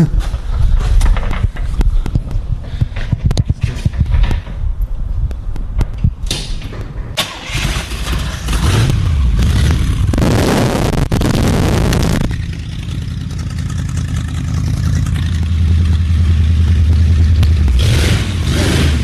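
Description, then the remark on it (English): A 1957 Buick 364 Nailhead V8 engine cranks over with a rapid stuttering churn, catches, and settles into a loud rumble, with a hard rev swelling midway before it drops back to a steady idle. “That's a 1957 Buick 364 Nailhead.”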